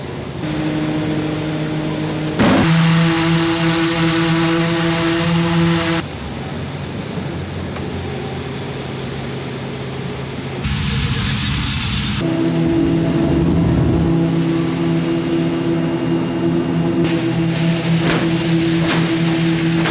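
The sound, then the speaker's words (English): A V1 buzz bomb machine runs with a loud, continuous buzzing drone full of steady low harmonics, its tone shifting abruptly several times with brief jolts and high whines layered above. “Here's the V1 buzz bomb I was talking about.”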